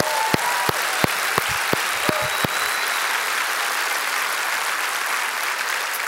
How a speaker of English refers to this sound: He's worthy. Can we just give him a praise clap this morning because he's so worthy?